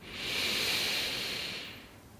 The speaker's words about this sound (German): Und wir atmen gemeinsam wieder ganz, ganz tief in den Bauch ein.